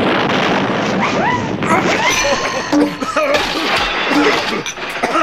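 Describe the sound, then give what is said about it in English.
A door is blasted open by an explosion: a loud, sustained roar of crashing and shattering debris fills all five seconds, with scattered clatters and brief squealing tones over the din. “Dear me, what happened there? The door just blew up, you goon.”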